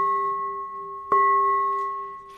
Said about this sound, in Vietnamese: Có nhiều người thỉnh chuông vậy nè, thấy hùng hổ lắm nghe, dơ lên vậy. Nãy dơ lên mình tưởng là sắp bể cái chuông rồi đó. Và có nhiều người phát tiếng chuông vậy.